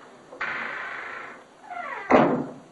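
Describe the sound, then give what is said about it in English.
A door is pushed closed: a sustained rustling swing with a brief creak, then one solid, sharp thump as it shuts. No one speaks. “Shut the door.”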